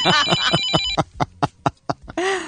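A telephone rings loudly with a rapid series of short, bright electronic bursts, one after another, and nobody talks over it.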